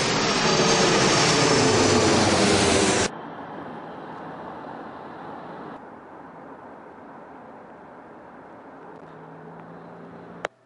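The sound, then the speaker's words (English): A loud, steady jet engine roar fills the first few seconds, then drops abruptly to a quieter, continuous cabin-like hum that drones on with no voices, aboard a plane flying to Dubai. “I'm not going to Dubai in this tiny elevator, but I'm going to the taxi to take me to a plane to Dubai.”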